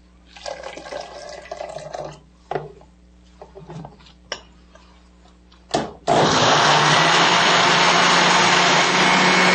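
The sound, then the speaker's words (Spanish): A blender liquefying corn with water whirs in short bursts with liquid sloshing and a few clinks, then runs continuously at full power, a loud, steady grinding roar. “Sí, por favor, licúa un poquito más la mazorca, entonces le podemos poner un poquitico más de agüita.”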